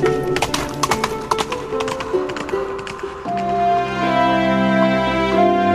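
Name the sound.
horse hooves clip-clopping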